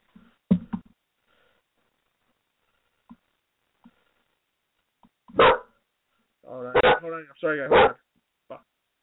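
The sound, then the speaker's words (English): A dog barks several times, a sharp bark early on, then a burst of loud barks and yips later, with quiet gaps between them; the dog keeps breaking out of its cage. “My dog keeps on breaking out of his cage.”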